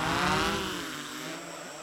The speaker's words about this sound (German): Und die dritte Lösung könnte sein natürlich, und das schauen wir uns mal eben an, und zwar filmen mit einer Drohne. Okay, ich starte jetzt.